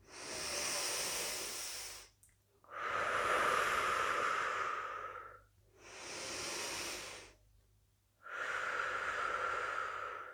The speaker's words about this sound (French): À chaque inspiration, nous activons l'énergie, la vitalité. À chaque expiration, nous la laissons s'installer en nous, nous la laissons venir nous nourrir. C'est parti, chacun à son rythme.